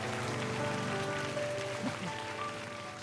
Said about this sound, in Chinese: 我哋俾掌声阿郭成啊，佢系叻仔嚟。 掌声。